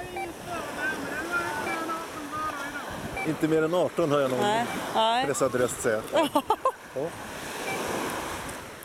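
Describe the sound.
Steady surf from ocean waves breaking on a beach fills the background as a continuous, fairly loud wash, with people talking over it and a touch of easterly wind.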